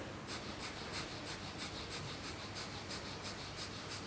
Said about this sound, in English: The breath of fire, Bastrika, breathing in and out through your nose, like relaxed hyperventilation. It's like so.